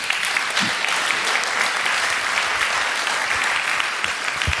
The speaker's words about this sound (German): Und einen schönen Applaus für ihn.